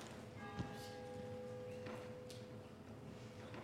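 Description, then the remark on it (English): A single bell is struck once, its clear ringing tone hanging and slowly fading over a couple of seconds against a steady background hum. “Oh, after the bell. Yes, yes, yes. Bell is very important.”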